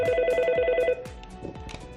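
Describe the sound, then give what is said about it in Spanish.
A telephone at a suicide prevention hotline rings with a steady warbling electronic tone for about a second, loud, then cuts off, leaving faint background rumble and soft knocks. “Teléfono contra el suicidio, ¿en qué puedo ayudarle?”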